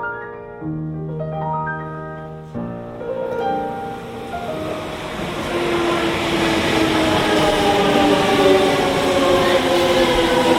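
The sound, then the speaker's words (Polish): A Shinkansen high-speed train from Osaka, a train that travels at 240 km per hour, runs with a loud, steady roaring rush and a rising electric whine, preceded by a few sustained tonal notes at the start. No one speaks. “Pewnego dnia jechałam pociągiem szybkich linii Shinkansen z Osaki. To jest taki pociąg, który pędzi z prędkością 240 na godzinę”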